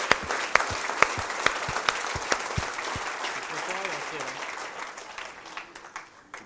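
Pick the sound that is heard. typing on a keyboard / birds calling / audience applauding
audience applauding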